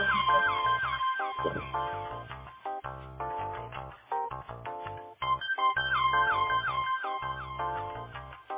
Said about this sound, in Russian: А походу много кто звонит, да?